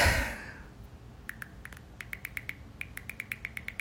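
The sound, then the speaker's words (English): A voice imitates iPhone keyboard typing, as when typing a text to a friend, with a quick series of sharp, high clicks, first a few scattered taps, then a steadier rapid run, crisp and fairly loud over a quiet background. “Hello, this is my impression of the iPhone keyboard when you were typing a text to your friend.”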